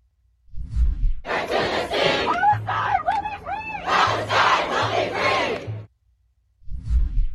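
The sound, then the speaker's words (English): Protesters at Columbia chant slogans, shouting "from the river to the sea, Palestine will be free", many loud voices together in a dense roar with rising and falling cries. Low rhythmic pulses run beneath it, with soft low thumps before and after. “Here are some protesters at Columbia.”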